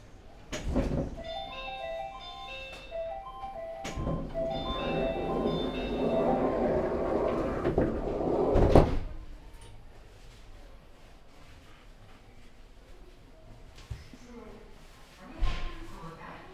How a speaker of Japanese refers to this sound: 校舎側の扉閉まりますのでお気をつけください。校舎側の扉閉まります。